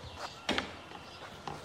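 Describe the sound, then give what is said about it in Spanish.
A few slow, soft footsteps land at uneven intervals, fairly quiet, with one slightly louder scuffing step, as a man slowly enters his house through the front door with his head bowed; no one speaks. “entra despacio por la puerta principal a su casa con la cabeza gacha.”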